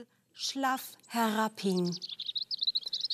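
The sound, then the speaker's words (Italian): A robin with an injured wing, near a clearing, chirps in a quick, steady string of high, thin notes, fairly loud, following a few drawn-out, voice-like tones at the start. “Ci concentrammo sulle nostre sensazioni e percepimmo che un pettirosso, con un'ala ferita, si trovava nelle vicinanze della radura.”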